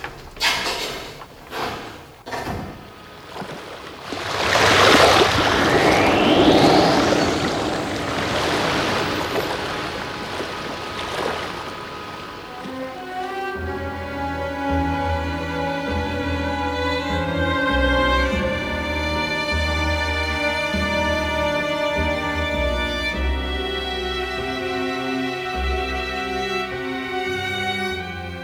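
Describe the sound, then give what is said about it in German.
A few metallic clunks and a loud surge of rushing water give way to a deep, steady engine drone with a throbbing low vibration as a submarine starts up and gets underway. “Leichtes Vibrieren ließ das U-Boot erzittern, als es sich in Bewegung setzte.”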